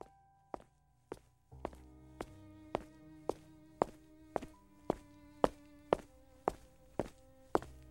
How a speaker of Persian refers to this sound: یهوی صدای پای یه نفر رو پشت سرش شنید که داشت نزدیک میشد.